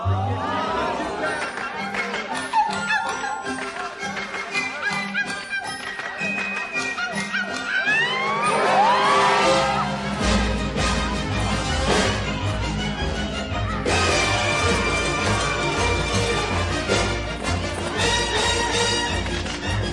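A lively musical theatre number plays loud: a busy full orchestra drives on steadily while an ensemble of voices sings and calls out over it.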